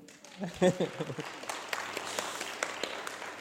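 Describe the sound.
A voice speaks briefly, then an audience breaks into steady applause, a dense crackle of many hands clapping at moderate volume that carries on to the end.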